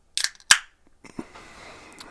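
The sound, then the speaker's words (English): A can of 8% craft beer cracking open: two sharp, bright snaps in quick succession, then a soft hiss of fizz trailing off. No one speaks. “Oh, yours is a way more solid crack than mine was over here.”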